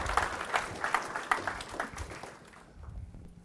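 A round of applause from a crowd, a dense patter of many hands clapping at moderate loudness for a couple of seconds before it quickly dies away into near quiet.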